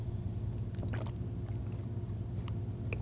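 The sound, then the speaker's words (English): Someone drinking water: a few soft sipping and swallowing clicks, clustered early and again near the end, over a steady low hum with no talking. “I have to have a drink of water. Hold on.”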